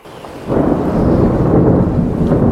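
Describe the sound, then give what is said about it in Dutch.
A loud, close clap of thunder bursts in after a brief quiet moment and rolls into a heavy, sustained low rumble, with rain hissing faintly beneath it. No one speaks. “Hoos, heel dichtbij is het.”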